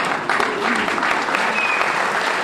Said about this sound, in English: The Preservation Society of Newport County donated the use of Rosecliff Mansion for Heather Abbott's welcome home party. When she arrived on crutches wearing a form-fitting royal blue sleeveless dress, she received a round of applause.